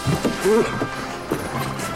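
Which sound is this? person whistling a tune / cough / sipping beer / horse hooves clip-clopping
horse hooves clip-clopping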